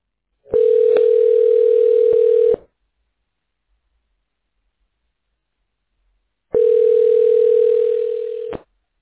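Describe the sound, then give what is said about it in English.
A telephone line connecting tone while a call to Top It Off Landscaping is being connected: two loud, steady, buzzing mid-pitched tones, each lasting about two seconds, separated by several seconds of silence, with no talking. “Please stay on the line while we connect you now.”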